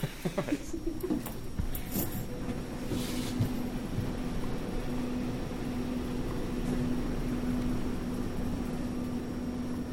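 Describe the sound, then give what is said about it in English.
A steady low mechanical hum fills the space throughout, with a faint tonal drone and a few soft clicks and shuffles near the start: the constant background hum of St. Paul's Hospital, in its Audiology and Ear, Nose, and Throat Department. “Is that the constant hum of the hospital in the background?”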